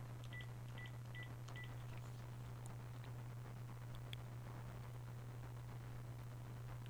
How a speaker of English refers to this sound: I think I dialed it correctly. Well, we're going to give this one more shot. Okay, we've got the dial tone. We're dialing the phone number here.